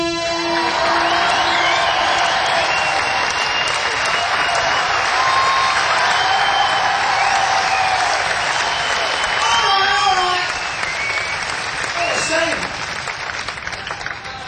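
crowd, audience applause and cheering

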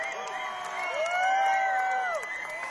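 crowd, audience cheering

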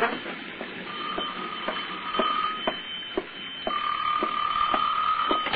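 household object, telephone ringing

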